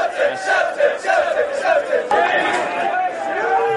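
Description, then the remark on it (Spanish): A large crowd of Scottish football fans massed at a stadium gate in Seville, trying to get into the stadium, shouts and chants together, a loud, steady roar of many voices with rising cries and no pauses throughout. “Este ha sido el momento de más tensión en el que un montón de escoceses se han reunido en una puerta del estadio.”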